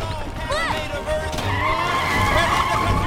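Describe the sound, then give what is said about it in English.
A race car's tires squeal in a sustained, wavering screech as Charlie Brown applies the brake and it skids around a corner, loud, with a rumbling engine underneath throughout. “Charlie applies the brake as the car turns a corner.”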